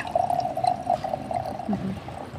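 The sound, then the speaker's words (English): Chardonnay wine pours steadily into a glass, a continuous gurgling stream with a rising tone as it fills, fairly clear, lasting a couple of seconds with no talking. “Can I pour you a glass of wine first?”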